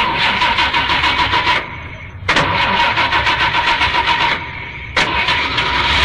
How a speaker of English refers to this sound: Can you start the engine? Or do you have to run with it like the Flintstones?